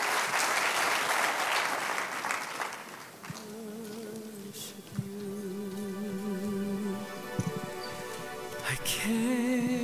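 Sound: audience applauding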